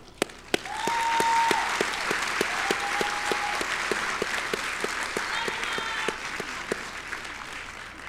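At a class of 2023 graduation ceremony, a large crowd breaks into sustained, steady applause for the graduates that holds for several seconds, with a few sharp individual claps standing out and brief high-pitched whistles rising above the clapping.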